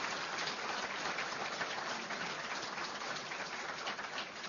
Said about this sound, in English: A round of applause, please, for our extraordinary guest